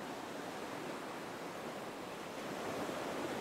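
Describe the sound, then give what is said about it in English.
Ocean waves wash onto a beach in a steady, hissing roar that swells slightly toward the end. The broad, even rush of surf plays alone, with no voices. “You hear the ocean waves.”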